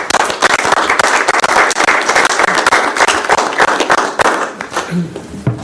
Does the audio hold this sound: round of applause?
yes